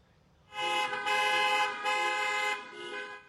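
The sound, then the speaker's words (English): A parade of cars and golf carts with decorations and signs passing in Fort Myers, Florida, for a military veteran's 100th birthday, horns honking, several loud blasts overlapping into nearly three seconds of continuous tooting before easing off slightly at the end. No voices. “the line of cars and golf carts drove by with decorations and signs.”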